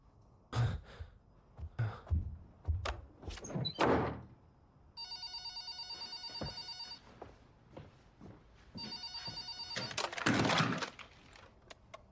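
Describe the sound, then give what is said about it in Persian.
A telephone rings in two long electronic bursts separated by a short pause, following some thumps and rustling movement; the ring is loud and clear. “گوشی دستتو؟”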